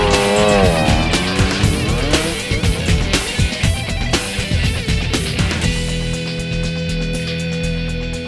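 A motorcycle engine revs loudly, its pitch sweeping upward as it pulls away, with rough, sputtering bursts before settling into a steadier drone. No one speaks.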